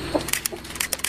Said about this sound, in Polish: Proszę o oficjalne przecięcie wstęgi.